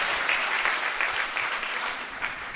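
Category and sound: crowd, audience applause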